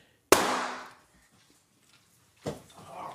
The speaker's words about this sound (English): You see, the gunshot came out here.